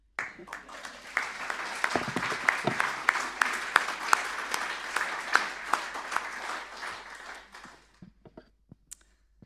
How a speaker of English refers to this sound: And I think you're amazing. And I think you deserve a round of applause just for you.